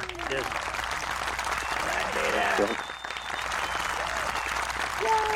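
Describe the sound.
Steady applause from a crowd on the Blind and Beyond radio show fills the whole stretch, a dense wash of clapping at an even loudness, with a few voices calling out briefly over it.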